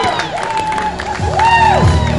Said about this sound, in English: I heard a lot of cheers and I thought they were supposed to be in favor of the Cardinals, but they're not. They're in favor of the Mets as Adamende is out at first